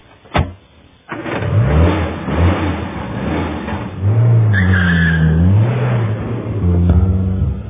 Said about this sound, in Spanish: sube en su coche. Al aeródromo.